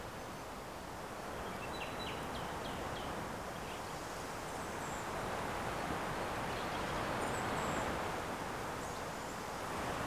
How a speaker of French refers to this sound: Belle ambiance. entre le vent qui bruisse dans les arbres.